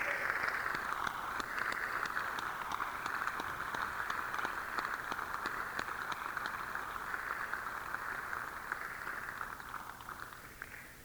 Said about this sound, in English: I'd like to take a moment to have you all recognize and give your applause to all the hardworking people backstage and the sound crew. There are a lot of people making this concert happen.